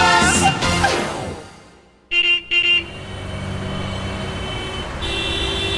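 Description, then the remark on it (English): Busy street noise with a steady hum of passing traffic, a vehicle rumbling by early on, then two short car horn toots around the middle before the traffic drone continues. “Well, I went to the streets to find out.”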